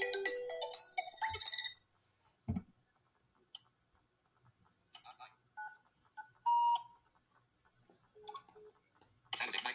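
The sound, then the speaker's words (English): A bright electronic app notification chime rings out at the start, followed by a scattering of short, soft digital beeps and clicks at a moderate level, with another chime-like burst at the end. “Notification from Aaron, Preston, Canadian server friends, Maddie.”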